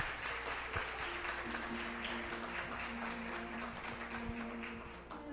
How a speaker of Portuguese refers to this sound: Uma salva de palmas.